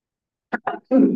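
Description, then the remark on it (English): A sneeze: two short, breathy catches build into one loud, explosive burst after a moment of silence, with no talking around it. “Bless you, man.”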